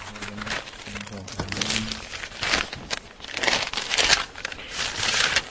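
Crinkly rustling of plastic bags in repeated bursts as archaeological finds from Podlažice (earrings, a ring, pieces of pottery, a buckle) are pulled out of them, with a faint low hum early on.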